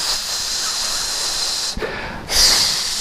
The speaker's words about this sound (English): it means I'm exhaling, you know, long